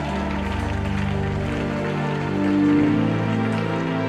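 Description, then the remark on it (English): A church audience claps unto Jesus in a dense, steady, continuous patter. Sustained musical tones hum underneath, and the clapping swells slightly louder near the end. “oh, don't pretend you are clapping. Clap better unto Jesus.”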